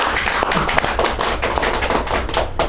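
A small group applauds steadily for a speaker about to share reflections on three years of recovery, a dense, continuous patter of clapping that holds at an even level for a few seconds, with no voices over it.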